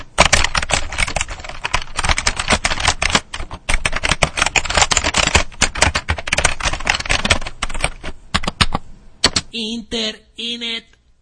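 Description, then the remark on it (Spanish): Rapid, continuous typing on a keyboard, dense clicking keystrokes for about nine seconds, then a brief pause and a couple of short tonal electronic sounds at the end. “Nos vamos a otra pausa y en este caso, porque vamos a ir tecleando el final del programa, este programa sin sentido. Vamos a teclear.”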